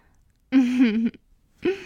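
A sharp voiced gasp, about half a second long and fairly loud, wavering in pitch, followed after a short pause by the start of a second breathy gasp.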